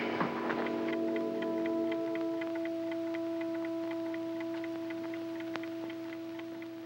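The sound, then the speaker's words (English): A clock ticks steadily and evenly beside a man lying awake in bed, its light, crisp clicks running throughout over a sustained low humming drone. “Here, he starts the scene in bed with the clock ticking.”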